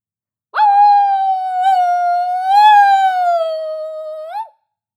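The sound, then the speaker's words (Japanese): A human voice imitates a wolf howl, one long sustained tone of about four seconds with a rich stack of harmonics. It wavers slightly in pitch, swells midway, and ends with a brief upward flick. “これ自分でやってから思ったんですけど、犬じゃなくてどちらかといえば狼でしたわ。”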